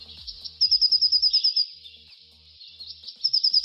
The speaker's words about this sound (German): Heute geht's um einen echt schönen Vogel, die Blaumeise. Sie ist der einzige europäische Vogel mit einem blau-gelben Gefieder. Und die Blaumeise klingt so.